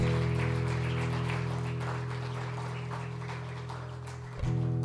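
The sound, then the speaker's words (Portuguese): A church audience applauding the Lord during a night service, in a steady, dense wash of clapping over a sustained low keyboard drone that shifts pitch just before the end. “Aplauda o Senhor nessa noite.”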